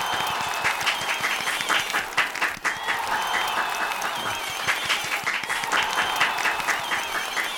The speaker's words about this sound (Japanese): はい、拍手が止まなくて大変でしたね。 もうみんな立っても立たなくていいよ。 そうそう途中でカットしたからね。